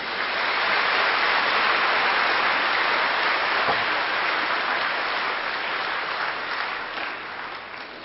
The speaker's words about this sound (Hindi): इसलिए अपने मन में ये पक्का संकल्प करके कि आज हम बाबा का शुक्रिया ही शुक्रिया मनोमन करेंगे, बोलने की तो बात नहीं है, और अपनी प्राप्तियों की खुशी में जोरदार ताली बजाइए।